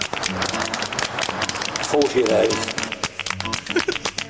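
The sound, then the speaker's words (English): Rhythmic hand clapping, sharp repeated claps at a steady pace, sounding over a musical backing with voices mixed in underneath. “Clappy bit.”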